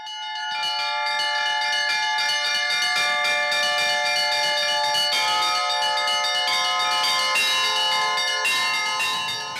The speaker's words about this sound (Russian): Кроме колокольного звона